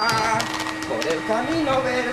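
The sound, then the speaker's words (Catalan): A vacuum cleaner drones steadily on the carpet of a living room in a flat, a constant mechanical whir that never lets up, while a voice hums or sings along over the noise. “amb davantal i mocador al cap, passa l'aspiradora per la catifa de la sala d'estar.”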